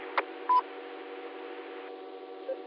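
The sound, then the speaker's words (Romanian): A short electronic squelch-tail beep from a radio repeater sounds over a narrow, hissy radio channel, preceded by a brief click and followed later by a faint second blip; no one speaks. “La mine sunt toate cozițele, se adună toate cozițele de peste tot, a rupt asta, să intru în emisie, să vă salut și eu, dar nici o șansă, frate.”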